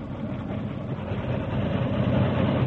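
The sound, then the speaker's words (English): A big railroad locomotive engine approaches rapidly at a steady speed, its heavy low roar rumbling steadily and growing slightly louder as it comes, with no voices present. “The big engine approached rapidly, maintaining a steady speed until one of the wheels exploded the torpedoes.”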